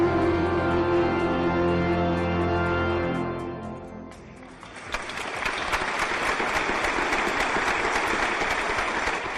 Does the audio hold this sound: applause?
yes